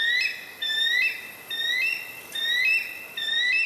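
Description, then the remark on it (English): A bald eagle flying among the clouds beyond the treetops calls: high, thin chittering whistles repeated in four quick piping bursts, clear over a quiet outdoor background with no voices, heard from a yard. “we heard a sound echoing from beyond the treetops.”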